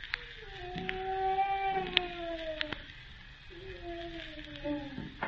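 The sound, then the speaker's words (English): A person in pain moans behind a small locked door: two long, low, wavering groans, each sliding slightly downward in pitch, separated by a brief pause, with a few faint clicks over a hushed background. “That was a human being moaning.”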